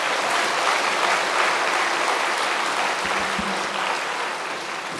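A crowd claps steadily for about five seconds in applause for a choir, a dense, even wash of applause that stays loud throughout and eases slightly toward the end, with no voices over it.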